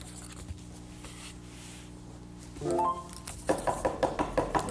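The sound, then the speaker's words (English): A rapid series of about eight sharp knocks on a door, evenly spaced and fairly loud, following a low steady hum and a brief tonal sound, with no one speaking. “Oh, there's somebody at the door.”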